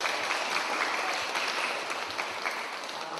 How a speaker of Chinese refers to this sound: 大家唔好为我鼓掌，要鼓掌一个系要俾阿弥陀佛鼓掌，阿弥陀佛多谢你。再一个为我哋自己鼓掌，为我哋自己鼓掌，好念佛。